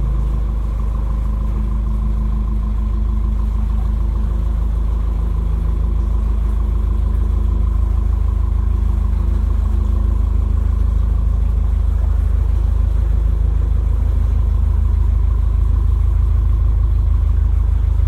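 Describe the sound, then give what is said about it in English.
A steady, loud low-pitched boat engine rumbles continuously as the boat moves through the older section of a tunnel toward the light at its end, its drone echoing, with no voices and little change over the whole stretch. “And we're now trundling towards the ever-growing light.”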